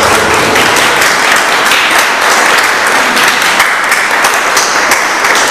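A crowd at a conference applauds loudly and steadily, a dense wash of many hands clapping with no break for the full five seconds and no voices standing out.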